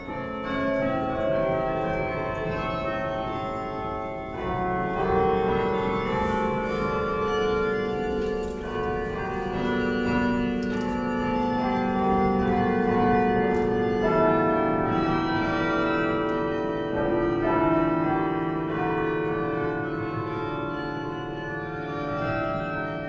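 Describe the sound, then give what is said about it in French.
The carillon of Douai rings out a continuous melody, many tuned bells overlapping in rich, shimmering tones with lingering resonance, steady and fairly loud throughout with no voices. “Le carillon de Douai a une sonorité vraiment très particulière, qui fait que c'est un carillon qui est connu même à l'étranger.”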